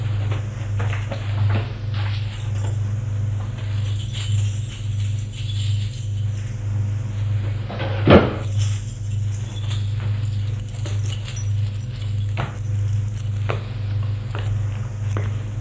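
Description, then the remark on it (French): Wardrobe doors and drawers being opened to take out money, with scattered wooden clunks, rattles and one sharper knock over a steady low electrical hum. “Ouvre l'armoire. Les tiroirs pour prendre de l'argent.”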